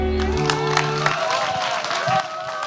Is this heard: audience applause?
yes